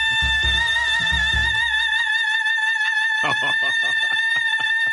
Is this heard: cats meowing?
no